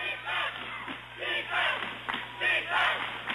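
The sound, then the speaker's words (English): The Cherry Valley student section chants "defense" at a basketball game against Oxford, in rhythmic, repeated bursts about once per second, the massed voices loud and echoing. “Chance of defense from the Cherry Valley cheering section behind us.”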